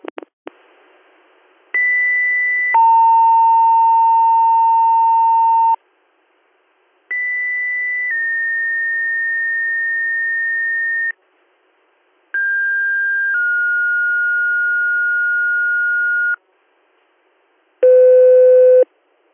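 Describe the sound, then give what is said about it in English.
Loud pager alert tones of a weekly pager test: three sets of steady electronic beeps, each a short tone stepping into a longer held tone of a different pitch, then one brief final tone, with silent gaps between. “This has been your weekly pager and siren test.”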